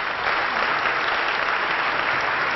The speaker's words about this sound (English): And again, I think it would be most appropriate as he comes to speak to us in this first session that we give honor to whom honor is due. Let us greet this brother with a round of applause.